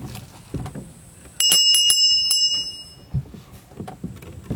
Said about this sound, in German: Die Glocke ertönt.